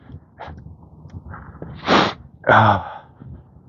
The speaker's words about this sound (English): Sniff snort.